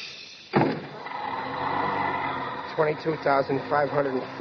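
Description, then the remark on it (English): A train's sliding door slams shut with a sharp thump, then a steady rushing rumble runs on for a couple of seconds before people begin talking over the noise. “Watch the door.”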